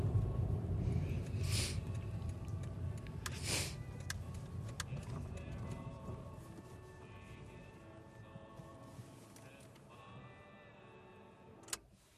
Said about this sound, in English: The car stops. Fonsi pulls up to his house in the countryside, 2 miles outside Ballybuffet, a modest, neat bungalow on an acre of land.